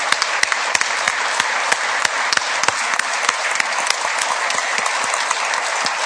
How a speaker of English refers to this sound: So if you will, say something great to these guys, like give them a round of applause. Welcome.